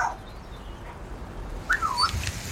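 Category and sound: bird, birds calling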